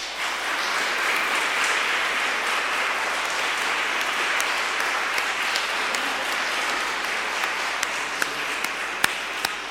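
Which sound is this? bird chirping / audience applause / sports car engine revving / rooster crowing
audience applause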